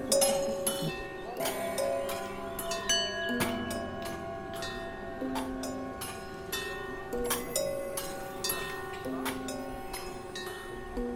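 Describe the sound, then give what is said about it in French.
An old-style electromechanical orchestra plays a dense, overlapping wash of struck bells, cowbells, gongs, clinking cymbals and Tibetan singing bowls, with sustained tones hanging beneath repeated sharp strikes at an irregular rhythm. “Des cloches, des gongs, des cymbales, des bols tibétains.”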